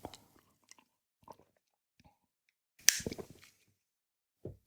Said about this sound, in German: Ach. Naja, immerhin, auf die Weise habe ich noch einen Schluck warmen Kaffee bekommen. Der wird nämlich auch immer schnell kalt, wenn ich kalt, wenn ich aufnehme.